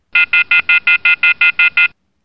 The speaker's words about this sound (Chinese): 哎，什么声音？哦，是飞机杯的警报声呀。不过飞机杯还没开始录呢呀。